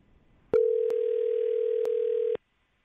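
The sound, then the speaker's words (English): A steady telephone dial tone hums loudly for about two seconds as a call is placed from a radio morning show at Mix 94.7, broken by a couple of faint clicks, then cuts off abruptly. No one speaks. “Well, let's give James a call right now and just find out.”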